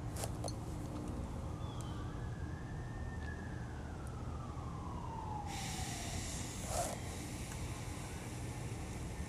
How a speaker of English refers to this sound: Sorry if you hear the sirens. There's really nothing I can do.